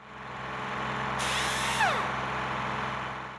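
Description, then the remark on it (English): Busy car garage workshop ambience at Grandad Dog's Garage in a Peppa Pig story: a steady mechanical hum, then a sharp hiss of a pneumatic power tool with a falling whine, loud, with no talking. “This is Grandad Dog's Garage.”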